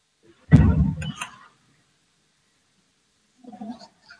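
parliamentary voting bell

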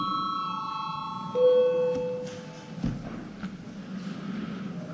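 parliamentary voting call bell

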